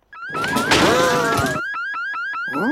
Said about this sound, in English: The alarm sounds as Marge tries to leave.